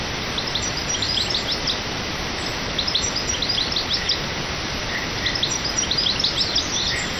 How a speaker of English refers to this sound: European goldfinch, small finch with bright yellow and black wing patch, red face and a brownish body. A series of cheerful melodies, notes often described as TTT or goldfinch